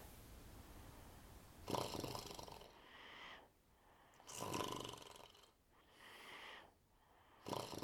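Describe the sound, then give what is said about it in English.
Steady, rhythmic snoring: three raspy snores about three seconds apart, each followed by a softer breathy exhale, fairly quiet, with no talking. “Don't let the snoring wake you.”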